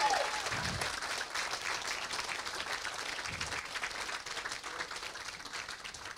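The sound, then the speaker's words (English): A church audience applauds steadily in praise, many hands clapping in a dense, continuous wash that holds at an even level throughout, with faint voices mixed in underneath. “If you believe it's done, clap your hands like a triumphant people.”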